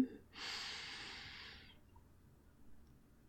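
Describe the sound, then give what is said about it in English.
A single deep inhale, airy and hissing, drawn steadily for over a second before trailing off into near silence, as part of a paced relaxation breathing exercise. “Keep breathing. In.”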